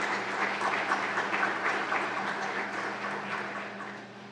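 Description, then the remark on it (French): A roomful of people claps steadily for several seconds, approving by acclamation a motion electing Steve Crocker chair of the board of directors. A dense, even wash of applause with a faint low hum underneath, fading slightly toward the end. “Donc nous pouvons approuver cette motion par acclamation.”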